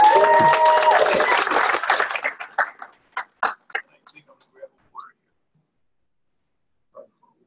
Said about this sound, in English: So everyone who has participated in any of our fundraising, the grocery stores and the like, and the Boscovs, and at the comedy night, applaud yourself. You guys did a great job.